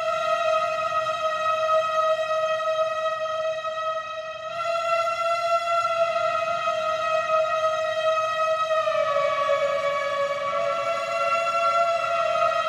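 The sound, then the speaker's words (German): A synthesizer imitates a singing saw, its pitch set by a ring and its volume or filter by a small wooden block. One long, steady, bright tone, rich in overtones, holds a single pitch, briefly softens midway, then drops slightly lower near the end. No one speaks. “Das ist die singende Säge.”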